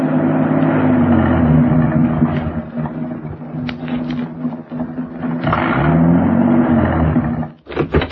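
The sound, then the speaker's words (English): A car engine labors steadily uphill into the Hollywood Hills as it gets dark, a loud, low droning growl that swells and eases slightly, with a brief dip near the end before revving again. “It's getting dark now, and the car was climbing.”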